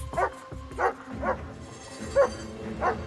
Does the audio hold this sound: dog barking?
yes